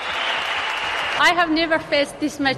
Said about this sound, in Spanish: El sábado, en Amurrio, la grada entera en pie, aplaudiendo y gritando, les dio la bienvenida a su nueva vida.